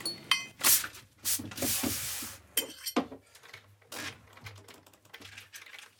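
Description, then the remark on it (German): Computer keyboard typing, relatively close at a table: irregular bursts of crisp key clicks mixed with some rustling handling noise, over a faint low hum. No one speaks. “Tastaturklappern eines Rechners.”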